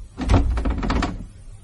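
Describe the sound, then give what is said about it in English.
A locked door is tried but won't open, its handle rattling and clunking in a quick burst of knocks for about a second, fairly loud, with no voices. “The door's locked.”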